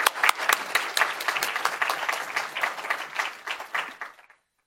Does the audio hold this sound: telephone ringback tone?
no